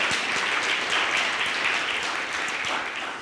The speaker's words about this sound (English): so maybe give her a round of applause too.